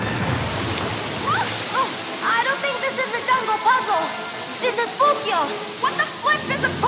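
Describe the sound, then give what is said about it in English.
A steady, dense roar of water rushing through an ancient underground Inca aqueduct fills the whole stretch without pause, while voices speak intermittently over it, partly masked by the constant flow. “It's an ancient underground aqueduct.”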